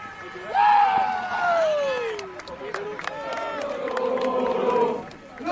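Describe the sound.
A crowd at an American football game, the Catalunya Cup won by the Dracs, cheers and roars as fans storm onto the field, with individual voices yelling long, falling shouts above a steady wash of excited noise and scattered sharp claps.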